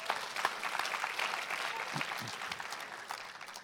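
An audience at a church service claps steadily, a dense wash of many hands at an even, moderately loud level, with a few faint low voices murmuring underneath.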